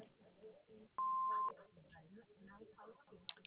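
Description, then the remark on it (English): A single steady answering-machine beep, loud and clear, holding one pitch for about half a second, with a person talking just before and after it. “We can't come to the phone right now, but if you'll leave a message after the beep, including your name and number, we'll return your call as soon as possible.”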